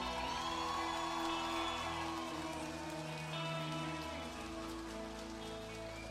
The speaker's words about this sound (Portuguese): Então eu queria que vocês todos dessem uma salva de palmas para Porto do Sol.